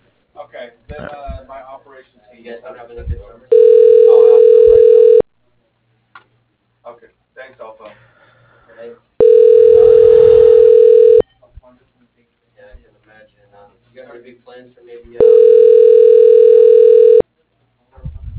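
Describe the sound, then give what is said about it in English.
A phone line rings three times while a call is transferred so the caller can leave a voicemail: long, steady, mid-pitched ringback tones of about two seconds each, evenly spaced, with faint indistinct voices in the gaps. “Let me transfer you and you can leave him a voicemail.”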